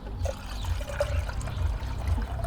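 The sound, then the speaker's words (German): Cold water pours steadily into a container, filling a dissolved mixture up to 500 milliliters, a continuous gurgling rush with a low, churning body that holds even for a couple of seconds without any talking. “Das Ganze natürlich mit kaltem Wasser dann auffüllen.”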